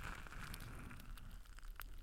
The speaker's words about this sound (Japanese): 今、あなたの目の前にある暖炉で燃えている薪の音も同じだね。 パチパチと火花を散らしながら、形をコロコロと変える炎を見ていると安らげるでしょう。